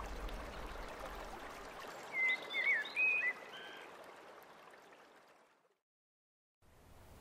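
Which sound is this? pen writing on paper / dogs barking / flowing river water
flowing river water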